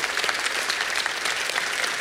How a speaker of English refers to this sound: So you give them a round of applause. Yeah. Like, I'm blown away by that.